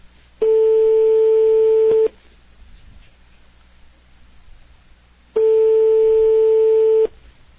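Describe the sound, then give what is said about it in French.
A French telephone ringing tone on an outgoing call: two long, steady beeps, each lasting well over a second, separated by a lengthy pause, clear and fairly loud over faint line hiss. “Espérons qu'on a le bon numéro. Sonnerie française.”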